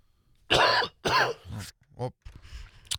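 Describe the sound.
Two harsh, loud coughs in quick succession, followed by a softer throat-clearing rasp and a brief voiced sound.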